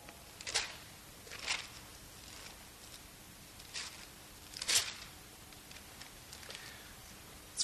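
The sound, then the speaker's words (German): Thin pages of a Bible being turned while looking up 1 Timothy 2: several quick, crisp papery rustles at uneven intervals, fairly soft against a quiet background with no one speaking. “Furchtbar, ich bin es gar nicht mehr gewohnt zu blättern mit meiner App.”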